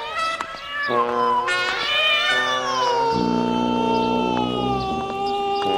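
A cat on a chain leash yowls loudly and continuously in long, wavering cries that rise and fall in pitch, turning its head left and right, insistent, with no other sounds around it.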